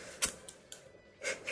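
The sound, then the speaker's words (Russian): A Zippo lighter is flicked without catching: a sharp metallic lid click, a couple of lighter ticks, then a brief scratchy wheel rasp and a final crisp snap, with no voices. “Мне сам процесс нравится. Ну ты что, не понимаешь? Чиркание без зажигания.”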